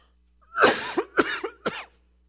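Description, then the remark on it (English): A fit of harsh coughing after something went down the wrong way while speaking, three strong bursts in quick succession, the first and loudest followed by two shorter hacking coughs, with no talking. “A lot of people don't realize that excuse me, that something went down the wrong way.”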